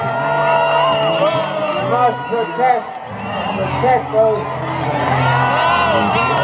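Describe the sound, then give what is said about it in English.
A large crowd at a rally across the street from the United Nations, waving Israeli flags and holding posters of captives, voices disapproval after Congressman Gerald Nadler says the U.S. should press for humanitarian aid for the Palestinians: a dense, sustained roar of many overlapping voices with shouts and jeers rising and falling, loud throughout. “Congressman Gerald Nadler echoed the words to bring them home, but then he said the U.S. should press for humanitarian aid for the Palestinians, and the crowd disapproved.”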